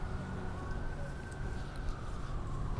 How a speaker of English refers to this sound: Another ambulance, there's a lot of those in New York City.